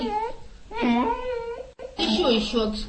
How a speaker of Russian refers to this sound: Мешал разговаривать и очень хотел продемонстрировать свои способности еще один полноправный член семьи – пес Веня, умеющий говорить «мама».